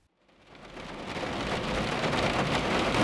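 Steady rain on a November day in Raleigh, North Carolina, pours down in a dense, hissing wash that swells up from near silence and holds at a full, even roar with a faint low rumble underneath; no voices.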